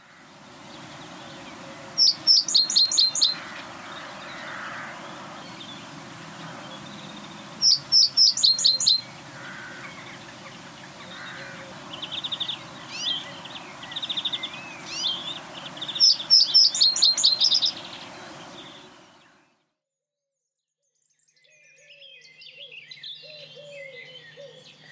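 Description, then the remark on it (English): A male reed-dwelling bird, perched high on reeds, rushes or scrub in the breeding season, repeats a short, simple territorial call in three bursts of clipped, rapid notes, clear against a steady background hiss with softer chirps in between. “During the breeding season, males can be spotted perched high on reeds, rushes or scrub, voicing their simple territorial call.”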